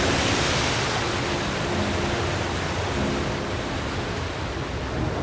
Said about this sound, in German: Hallo am Strand. Oh, das ist schön, das Rauschen, ne? Habe ich sofort den Geruch von Sonnencreme in der Nase, wenn ich das höre.